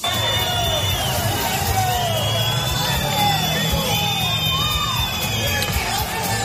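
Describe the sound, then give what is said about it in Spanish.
A crowd of protesters outside the government subdelegation in Málaga shouts and yells as the motorcade of dozens of cars carrying Pedro Sánchez departs, a loud, steady din, many voices overlapping with rising whoops and calls and a low rumble beneath, never letting up. “Así sonaba la salida de la comitiva de coches en la que iba Pedro Sánchez.”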